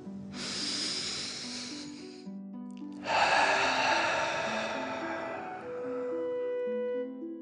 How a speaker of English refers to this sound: Breathe in through your nose and then out through your mouth, pretending you are breathing fire. Deep breath in and out.